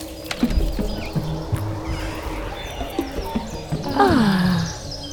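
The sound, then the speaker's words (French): Birds chirp and trill in the open air in the flowering garden of a house while footsteps crunch steadily over gravel; a longer descending call stands out near the end. No one speaks. “Pas un bruit, sauf les oiseaux qui chantent et le gravillon qui roule sous nos pas.”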